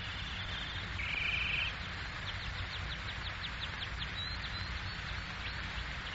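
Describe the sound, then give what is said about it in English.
A golden wind-up mechanical canary in a cage sings on its own after its key is turned, a sustained high whistle followed by a quick series of bright, repeated chirps and trills over a low steady background hum. “The canary which gave him so much delight, of which he was so proud. What was it he said? You turn the key.”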